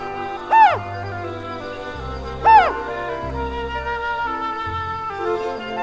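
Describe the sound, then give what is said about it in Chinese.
Two short owl calls from an owl in a hole in the trunk of an oak tree, with a rising-then-falling pitch, about two seconds apart, stand out clearly over steady background music with low sustained notes; no one speaks. “你不怕猫头鹰的声音？”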